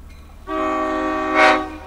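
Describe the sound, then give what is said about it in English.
A slow-moving diesel train, going about 3 miles an hour and crossing the tracks right in front of the listener, gives one long, steady horn blast that starts abruptly, holds loud and even, then swells brighter just before fading, with no one talking. “Oh, the train's coming right in front of us. You might be able to hear the sound of the diesel there.”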